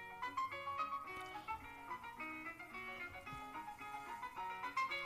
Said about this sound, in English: Okay, I'm going to play you two things. I'm going to play you both. Okay, earbuds, everybody. This is what my cell phone ring sounds like.